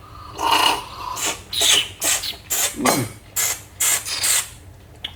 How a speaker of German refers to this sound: Jetzt kommen wir zum Japan Sencha. Nehme ich mir auch einen Tee, also in Japan so mit die Marke schlechthin, gut, der beliebteste. Darf ich da schlürfen?